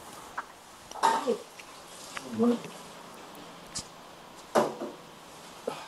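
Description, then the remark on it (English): A window blind being lowered and a plant knocked over: several short clattering and rustling bursts at irregular intervals, with quieter shuffling noises between them. “Yeah, just let me lower this blind because I can't see.”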